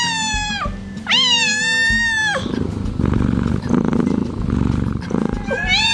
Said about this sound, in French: Voilà, c'est ça. Alors, tout le monde connaît la ronron-thérapie.